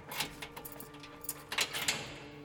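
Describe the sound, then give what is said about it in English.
A heavy secure prison door is unlocked and swings open, with keys jangling and several sharp metallic clanks and rattles over a low steady hum, moderately loud, with no voices. “His entourage of guards took him through one last secure door. Stephen steeled himself as it swung open.”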